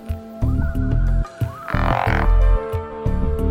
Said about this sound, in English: frogs have a special call that is uttered at intervals throughout the warmer part of the year. These calls seem to serve the purpose of advertising the presence of individual frogs to other males of the same species in the vicinity.